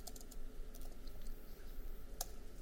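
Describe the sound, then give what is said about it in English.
Quiet, irregular clicking of keys on a computer keyboard while naming a new user control in a software project, a short burst of typing with uneven pauses and one sharper keystroke near the end, with no voices. “Let me just get my typing right.”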